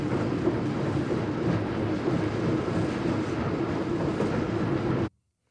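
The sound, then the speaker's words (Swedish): An accelerating locomotive rumbles steadily and loudly with a dense, rhythmic clonking from its slightly uneven coupling rods, following the speed of the driving wheels, the noise sustained for about five seconds before cutting off abruptly. “Det klonkande ljudet, vad är det för något? Det är drivhjulens varvtal. Det är koppelstängerna som är lite ojämna.”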